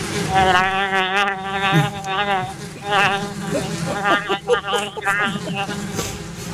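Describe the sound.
A person hums and buzzes through closed lips, imitating a fly with a steady, wavering drone that rises and dips for several seconds, fairly loud, breaking into choppier bursts toward the end.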